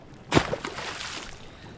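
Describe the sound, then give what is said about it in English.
A sudden splash of water as someone gets into a bubbling hot spring, then steady sloshing and churning. Moderately loud, with no voices. “Oh, those bubbles are massaging every part of me.”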